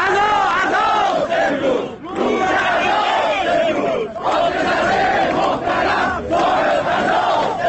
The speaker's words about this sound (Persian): بازنشستگان معترض در تبریز شعارهای علیه ابراهیم رئیسی و دولتش سر دادند. اجتماع بازنشستگان تبریزی با حضور پررنگ نیروی انتظامی و در جوی امنیتی برگزار شد.